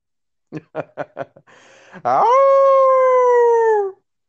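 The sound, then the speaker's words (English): A person imitates a wolf howl as a Wolfpack howl: four quick chuckle-like bursts, a brief breathy rush, then a loud, sustained howl held at a steady pitch for about two seconds, sagging slightly before cutting off. “I just need you to give me your best Wolfpack howl.”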